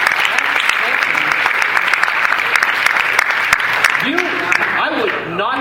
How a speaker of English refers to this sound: That sentence deserves a clap.